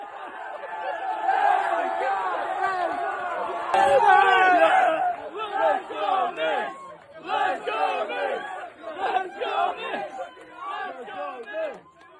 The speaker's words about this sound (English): The instant that the final buzzer sounded, the streets here erupted, even in the middle of the night, those wee pre-dawn hours, as people at watch parties screamed, cursed, and hugged strangers.